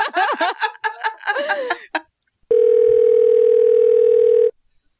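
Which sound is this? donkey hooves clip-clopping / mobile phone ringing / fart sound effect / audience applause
mobile phone ringing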